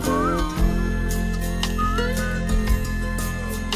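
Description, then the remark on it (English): A man aboard a boat on crocodile waters casually whistles a few short notes, nearly buried under a steady, loud low rumble like a boat engine running throughout. “… casually whistles.”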